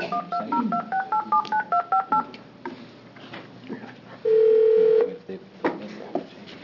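A quick run of about ten touch-tone dialing beeps, evenly paced, placing a phone call to Dr. Jennifer Woolard during a Joint Committee on Public Safety hearing, followed after a pause by one longer, steady mid-pitched tone, all over faint background noise.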